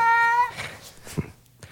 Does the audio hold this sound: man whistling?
no